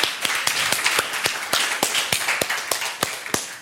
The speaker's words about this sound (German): Aber erstmal holt ihr euch einen kleinen Applaus für eure Präsentation ab oder auch einen großen Applaus.